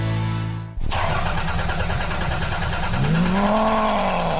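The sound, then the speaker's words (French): A car engine cranks and starts, then runs loudly and roughly before revving up, its pitch rising and falling. No voices are heard. “Ah, il est vraiment temps que votre voiture soit entretenue par un expert.”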